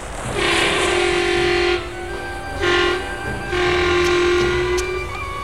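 A loud, steady vehicle horn blares in three blasts: a long one, a brief short toot, then another long sustained blast, sounding alone without any talking, as the horn is pressed a second time with the sun low in the sky.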